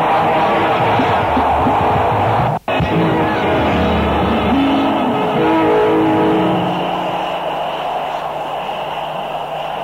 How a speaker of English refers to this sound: So whenever people are shouting hallelujah, demons run away. Let me hear somebody shout hallelujah.